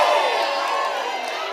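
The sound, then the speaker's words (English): A crowd of people shouts and cheers in a loud, dense wash of overlapping voices that holds steady through the whole moment, with scattered whoops rising above the roar. “Y'all ain't shouting enough for that.”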